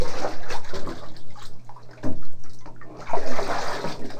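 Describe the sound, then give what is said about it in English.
Water pours out of a pan in a loud, continuous rush that splashes and gurgles, surging in a few uneven waves with no talking. “Get that pan full of water and pour it out.”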